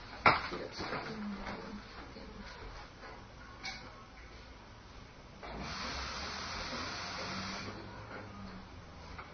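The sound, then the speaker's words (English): A sharp click and some light clatter as a kettle is set going to heat more water, then a steady, moderately loud hiss of heating water fills the last few seconds. “I'm going to put on some more hot water.”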